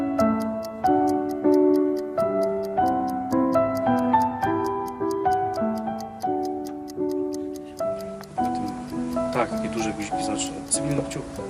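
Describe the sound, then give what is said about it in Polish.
Steady, rapid ticking of a watch runs throughout, crisp and evenly spaced, layered over sustained musical tones; toward the end the texture grows busier and noisier. “Rozstrzelany zegarek.”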